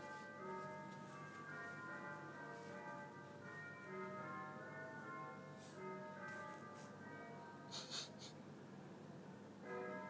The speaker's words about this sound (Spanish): Hola, campanas. Ahí está.